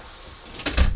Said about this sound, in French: Bon, je vais aller fermer la porte, ça ne vous embête pas, et puis je m'installe.